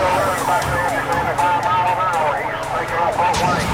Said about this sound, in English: The pursuing sergeant's siren moves traffic to the right, but the suspect again slices up the breakdown lane.